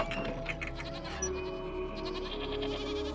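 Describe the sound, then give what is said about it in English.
Nanny goats in a pen bleat in a barn, their wavering cries overlapping one another against a steady low rumble and rustling in the background, with no voices present. “There, the old woman took him to a pen of nanny goats and sat him down on a pile of hay.”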